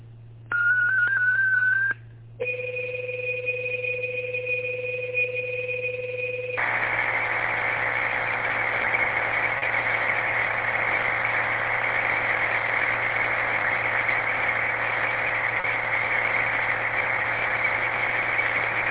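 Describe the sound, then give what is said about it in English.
A digital radio data transmission from station KGTC: a short steady tone, a brief gap, paired sustained tones, then a long, loud, continuous hissing buzz of data that fills the rest, with no voices. “All right, stand by for digital traffic.”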